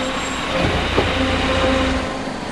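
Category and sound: vehicle, bus driving off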